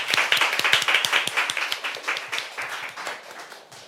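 An audience applauds steadily, a dense patter of many hands clapping at a lively, even rhythm that gradually thins and softens toward the end.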